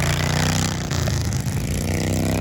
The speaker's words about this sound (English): District Field Days in Fielding, which is where I have had the pleasure of spending the day, such a great event, and where I had the enormous pleasure of watching the Prime Minister of Aotearoa, New Zealand, absolutely blat it on a ride-on lawnmower.